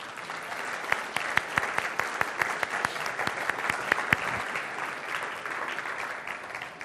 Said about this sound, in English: I think she ought to stand for that, and we ought to clap for it.